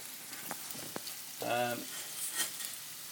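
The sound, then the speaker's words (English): Meatballs fry in a pan with a steady crackling sizzle, punctuated by a couple of sharp clicks and a brief squeaky scrape partway through. “Well, the sound of the meatballs frying is louder than the sound of the water being poured on the spaghetti.”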